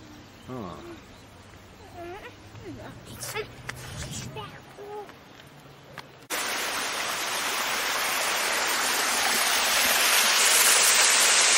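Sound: flowing river water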